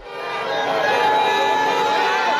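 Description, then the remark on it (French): A dense crowd in Senegal, West Africa, roars and cheers continuously in celebration after the presidential election on Sunday 24 March, a steady wash of many voices with shrill whistles and high-pitched shouts layered on top, holding loud throughout. “Ce que tu entends, ce sont des manifestations de joie après l'élection présidentielle au Sénégal, en Afrique de l'Ouest.”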